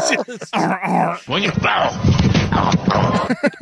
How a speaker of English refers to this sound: Sounds like a seal. Is it a duck or is it a seal? Well, and there's a grunt. I love the grunt. I can't get enough of it.